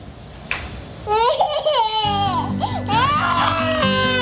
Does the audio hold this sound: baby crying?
yes